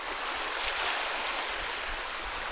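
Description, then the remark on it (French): A steady, hissing wash of sea waves rolls on without distinct breaks, moderately loud, with no voices present. “Au revoir, les vagues. Au revoir, les mouettes.”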